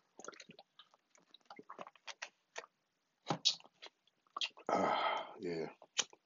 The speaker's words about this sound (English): Hold on. Let me take a sip of this water real quick, too.